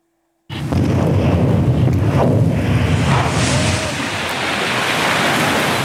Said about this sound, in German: So sieht es aus, wenn 500 Kilogramm Sprengstoff explodieren. Und es ist ihr Job, dass das nur unter absolut kontrollierten Bedingungen passiert. Die Minentaucher der Bundeswehr sind Spezialisten für die Kampfmittelbeseitigung unter extremen Bedingung